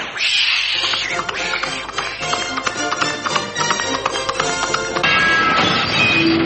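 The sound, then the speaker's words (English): A cat yowls amid a busy, clattering background of rapid taps and scuffles, the cries loud, with a sharper squeal near the end. “And with that, he shot a glance at the cat and galloped through the French windows.”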